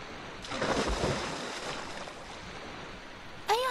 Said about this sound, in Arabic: ذات يوم كانت الأسماك تسبح في ماء البحر، وإذا بسفينة عبرت من سطح البحر وألقي منها برميل أصفر.